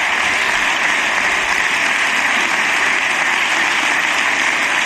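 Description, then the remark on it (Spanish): A long, steady ovation in a parliament chamber as the deputies leave their seats, many hands clapping together in a dense, continuous wash of applause that stays loud and even throughout, with no voices standing out above it. “Larga ovación mientras se va vaciando el hemiciclo, porque el resto de diputados y de diputadas ya van abandonando sus escaños.”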